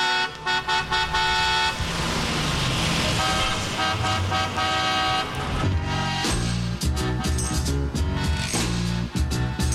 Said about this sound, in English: As a matter of fact, I can hear the cars right from Highway 20.